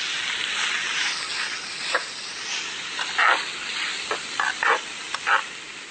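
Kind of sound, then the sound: food or drink, food frying and sizzling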